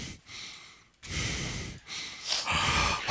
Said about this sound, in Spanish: Y vas a ver cómo en directo se escucha la respiración. Eso está bien, eso está si bien. Si pones la nariz encima del micro. Eso está bien, porque así la gente sabe que estamos vivos.